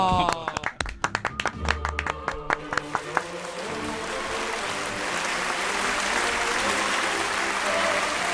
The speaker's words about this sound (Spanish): ¡Pum, pum, pum! ¡Un aplauso! ¡Bravo!